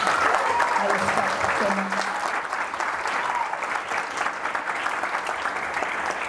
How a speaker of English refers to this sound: So one more time, please clap it up for somebody.